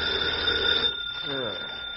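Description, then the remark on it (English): A telephone rings with a bright, steady electronic tone for just under a second, then cuts off as a voice begins speaking over faint background noise. “Turn on the tape. Rager's on the line.”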